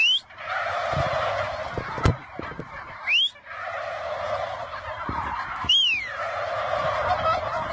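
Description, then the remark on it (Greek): A flock of turkeys gobbles continuously in a dense, overlapping chorus, with a few sharp knocks and brief rising and falling squeals cutting through the steady, fairly loud clamor. “Εισχωρούν γαλοπούλες στο σταθμό.”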